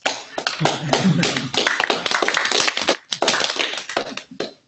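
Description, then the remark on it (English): A group applauds with dense, overlapping hand claps that build quickly and hold steady, with brief dips, then taper off into a few scattered claps at the end. No one speaks. The group claps at a meeting to congratulate the executive committee on its work this semester. “I want to congratulate and appreciate the executive committee for their work this semester, and I want us all to clap.”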